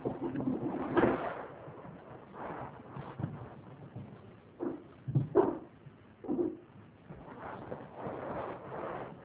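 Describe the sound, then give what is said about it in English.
A puppy on a bookshelf picks up his bones one after another, making a series of irregular, muffled knocks and clatters as they are picked up and put down, with soft shuffling in between and no voices. “Behind me, our puppy was going onto the bookshelf and picking up his bones.”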